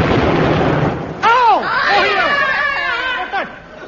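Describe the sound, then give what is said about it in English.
A sharp, loud gunshot bursts out after a second of hissy noise, followed by a series of falling, whistling tones that sweep downward and fade, with a second smaller pop near the end. “Did someone fire a gun at me?”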